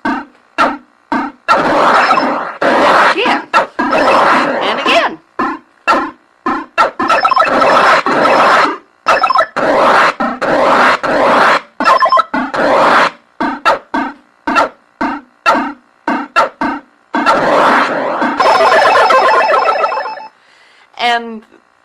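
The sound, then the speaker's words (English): Retro video game sounds from Demon Attack: rapid, choppy electronic chirps and warbles, ending in a harmonic death tone as the player gets killed, trailing off with an echo-like repeat. No one speaks. “I can tell the difference between getting dead and a new demon appearing because A, getting dead has more of an echo to it, and B, getting dead also flashes, where just a new demon popping up, there's no flash or anything.”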